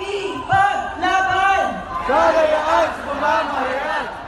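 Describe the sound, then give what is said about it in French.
A large crowd of Filipinos gathered in the evening in Manila chants together in loud, rhythmic unison, calling for someone's release, repeating short phrases in steady bursts that rise and fall, like protesters calling out a slogan at a rally. “cette foule de Philippins réunis hier soir à Manille pour appeler à la libération de Ressa”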